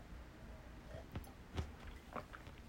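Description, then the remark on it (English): Quiet mouth sounds of someone sipping coffee: a few soft slurping sips and a swallow, spaced a second or so apart over a faint background hush, with no talking. “I better have a sip of coffee, clear up my mind a little.”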